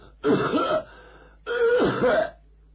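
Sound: coughing and throat clearing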